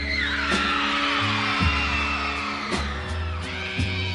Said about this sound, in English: That audience is just screaming their lungs out because this guy knows how to deliver a show.